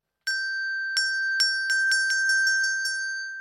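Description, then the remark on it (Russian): A small door bell of the teremok, rung by the bear in the Teremok fairy tale, rings with a clear, high, sustained tone, struck about ten times in quick succession that speed up slightly before the ringing fades. No voices. “Позвонил медведь в колокольчик. Колокольчик и зазвенел.”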